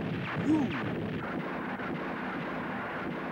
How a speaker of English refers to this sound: Attack! Yes, sir! Fire all cannons!